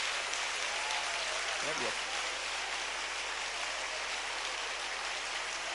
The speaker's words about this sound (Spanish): Bríndele un aplauso fuerte a este Dios grande y maravilloso.